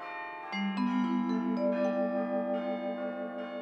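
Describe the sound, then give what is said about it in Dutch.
Church bells ring out in a series of overlapping strikes, each tone sustaining and blending into the next at different pitches, with no voices present. “Als hij aan de touwen trok, kon je de klokken in heel Parijs horen.”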